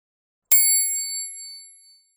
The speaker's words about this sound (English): The children didn't hear the bell.